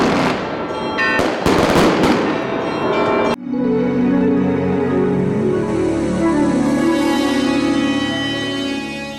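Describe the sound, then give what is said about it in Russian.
Loud festive fireworks set off after a Christmas church service burst in a rapid crackling volley for a few seconds, then stop abruptly as sustained ringing bell-like tones carry on steadily to the end. No one speaks. “Также после богослужения верующим раздали небольшие рождественские подарки и был организован праздничный салют.”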